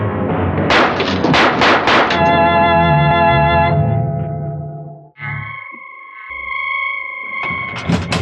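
Calimán violently flings a door open and is met by a volley of gunfire as a man shoots at him point-blank: five or six loud gunshots, then a sustained ringing, processed tone that fades away; a new droning tone follows, with one last sharp burst at the end. No one speaks.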